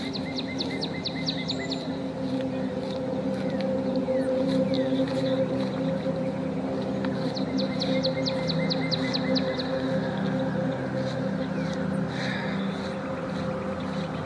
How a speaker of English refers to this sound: The birds are nice here. The sound of the birds.